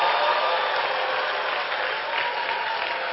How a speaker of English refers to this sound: Oh, is that how you clap to show appreciation?